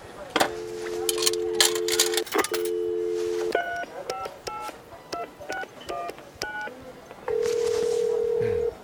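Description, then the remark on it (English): In a food court called World Cuisine, a steady dial tone, then a quick run of about a dozen beeping keypad tones as a number is dialed, followed by a long ringing tone, all clear over faint background clatter. “We rejoin news anchor Trent as he makes a potentially life-changing phone call in the food court called World Cuisine.”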